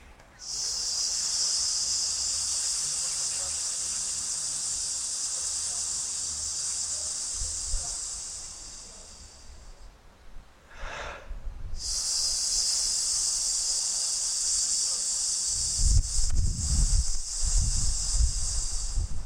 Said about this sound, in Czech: A budeme dělat cvičení balónek, takže se nadechnete do bříška. Ideálně rozepnete všechny strany bříška, to znamená vpředu, do boku i dozadu. A plynule budete syčet. A dáme si společně 5 balónků na S. Nádech.